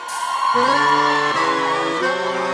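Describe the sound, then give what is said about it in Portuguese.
A loud, sustained burst of whooping and shouting from a crowd of gaúchos, with several voices holding long yells over a dense, noisy backdrop for a couple of seconds. “Quero ver o grito da gauchada aí.”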